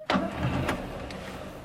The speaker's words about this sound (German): Dann steigt er in sein gelbes Auto mit der Aufschrift «Spritzenwespe» und fährt los.